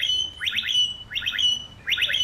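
A blackbird in Kiel, Germany, sings a bright, electronic-sounding phrase that mimics an e-scooter alarm, repeating quick trilled bursts over a thin steady whistle three times in close succession, clear.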